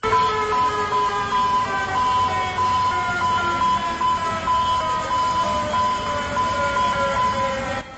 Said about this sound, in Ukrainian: Щойно ви чули звуки сучасного сигналу біди у Атлантичному порту Венесуели Каракасі.